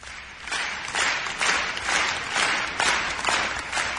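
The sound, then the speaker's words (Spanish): Many people applaud together in a steady, dense patter that swells and eases in waves, echoing, with no voices standing out; people applauding healthcare workers and carers at 8 every evening during lockdown confinement. “Y es que a las 8, todas las tardes, cuando estábamos confinados, salíamos a aplaudir a todas las personas que nos estaban cuidando, especialmente las que trabajan en nuestro sistema de salud, por el trabajo que estaban haciendo.”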